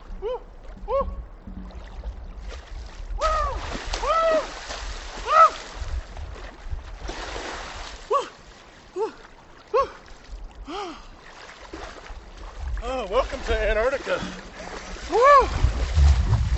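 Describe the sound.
People wade and splash into the New River on New Year's Day 2014, at 22 degrees, one without a wetsuit, a steady churn of sloshing, while several voices shout, whoop and call out excitedly over it.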